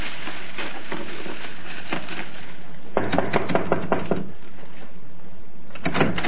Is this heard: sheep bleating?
no